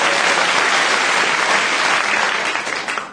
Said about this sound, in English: No, she lost. Don't give her any applause. Give the other three applause.